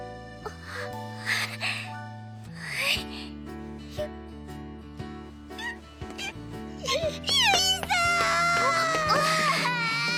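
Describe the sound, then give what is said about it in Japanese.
A girl cries with joy in high, wavering, tearful sobs, building louder and more broken toward the end, over a soft, steady musical backing. “あれ、なんか俺の時より泣いてない？”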